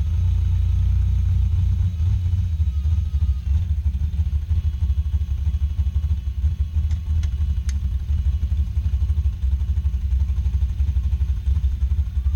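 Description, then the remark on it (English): The engine of a 25-foot-long dragster rumbles steadily as it is lined up between two cones at a racetrack for the burnout, its deep low-end roar sustained and loud, with faint mechanical clatter on top and no voices. “We're coming up for the burnout. So I've got to line this dragster up that's 25 feet long on a very narrow spot between two cones so I can get this thing correct.”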